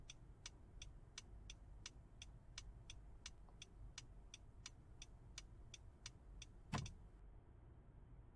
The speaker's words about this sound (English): Huh? Yeah, that is my car. My brother must have gotten home.